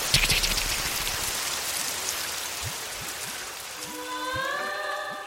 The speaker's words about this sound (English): Keep, stop the rain. I said stop it!